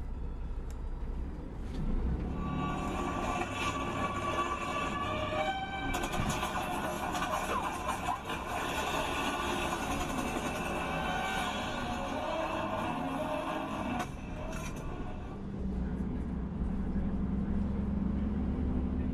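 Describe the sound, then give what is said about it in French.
Steady rumble inside a moving bus on the road among cars, with droning engine noise, rattles and a broad mechanical hum that swells and settles; faint voices murmur in the background. “Je suis comme dans ce bus, un peu comme en lévitation, au-dessus de la route et des voitures.”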